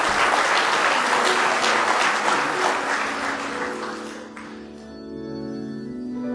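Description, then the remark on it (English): A church audience claps loudly and steadily in praise of God for several seconds, a dense wash of many hands, then the applause fades as sustained organ or keyboard tones rise underneath. “Give Him one more hand clap of praise if you love Him with all your heart tonight.”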